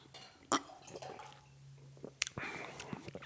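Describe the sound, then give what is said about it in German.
Water is poured into a glass of lemonade to dilute it, a short splashing trickle set off by a couple of sharp clinks, with faint murmuring voices in the background. “Also wenn man so ein bisschen mit Wasser streckt.”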